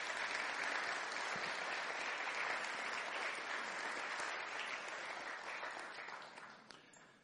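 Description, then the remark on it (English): A crowd applauds steadily for the physical properties and facility management team, a dense wash of clapping that holds strong for several seconds before gradually tapering off toward the end. “In fact, you need to give them a round of applause.”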